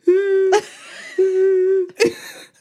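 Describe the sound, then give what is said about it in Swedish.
A voice imitates a sobbing, whimpering cry: two long, steady, high-pitched wails, each broken off by a sharp, gasping breath, fairly loud, with no talking. “Och jag bara, nu blir jag rädd. Ja, och jag gjorde så här ljud också.”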